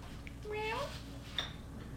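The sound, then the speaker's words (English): A young child's voice imitates a cat, giving one drawn-out, rising "meow", followed by a brief high squeak against a quiet hum. “What's the cat say? Meow.”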